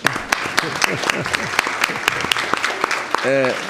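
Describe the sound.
An audience claps steadily, a dense patter of many hands with sharp individual claps standing out, while voices murmur and call out underneath; a sustained vocal tone rises near the end.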